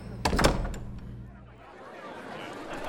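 A door is opened and closed as someone walks out: a quick cluster of wooden knocks and clunks, then a lingering hiss as the sound settles, with no voices.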